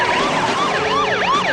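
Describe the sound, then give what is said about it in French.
A loud ambulance siren from the film The Ambulance wails in rapid rising and falling sweeps, with a steady hum of traffic underneath and no voices. “An ambulance that picks up New Yorkers and they're never seen or heard from again.”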